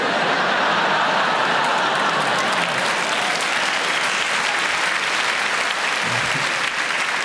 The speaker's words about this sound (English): So the younger people laughing and clapping, the older ones going, who is this Pac-Man you speak of?